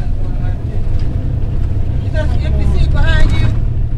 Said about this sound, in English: Everyone settles into their seats as the bus pulls away from the curb. It slowly winds its way through the streets of South L.A.